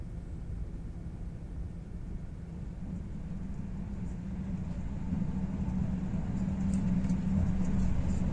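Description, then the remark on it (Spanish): The Torre del Oro passenger train, bound for Barcelona, rolls in alongside a stationary train at Socuéllamos station, Ciudad Real province, Spain, with a deep, steady rumble that swells gradually in loudness, a faint hum rising over it toward the end. No voices are heard. “Mientras el tren permanece estacionado, hace acto de presencia el Torre del Oro Inverso, el que va camino de Barcelona.”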